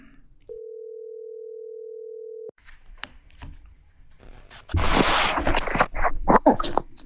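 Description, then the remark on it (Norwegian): A single steady telephone ringing tone drones for about two seconds, then cuts off into clicks, rustling and a loud burst of crackly line noise as the call connects. “Kanskje vi skal ringe han og høre da? Vi ringer og hører hvordan det går.”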